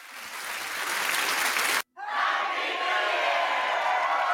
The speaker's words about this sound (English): Give yourself applause, would you? I will. You deserve it.